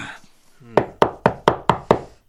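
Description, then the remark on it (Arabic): Six sharp, evenly spaced knocks on a wooden classroom door at a school during a lesson, fairly loud, following a brief murmur of voices at the start. “هل أفتح الباب يا أستاذ؟”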